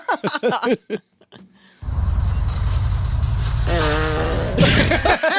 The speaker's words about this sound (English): She rides by in a grocery cart and farts right when she hits the camera. That's brilliant. It's such good timing, too.